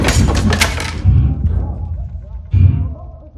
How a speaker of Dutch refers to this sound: Ineens vallen er stukken gereedschap van de wand op de werktafel.